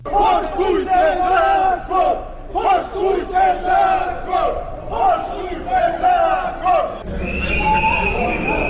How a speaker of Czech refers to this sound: Ovo su uz zvuk sirena i pištaljki uzvikivali penzioneri Kapa tokom protestne šetnje ulicama Podgorice